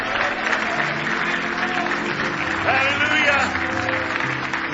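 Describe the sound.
An audience claps steadily in praise of the Lord, a dense, sustained wash of many hands, with voices calling out over the applause.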